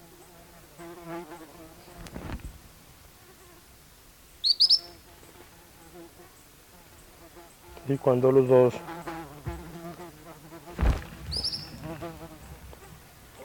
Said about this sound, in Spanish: Son dos individuos de tiranos melancólicos. Vocalizan desde la misma percha.